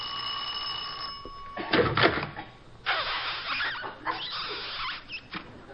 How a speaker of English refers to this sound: Now it's really dark out here. I'll ring the bell.